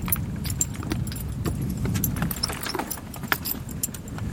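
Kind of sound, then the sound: animal, horse moving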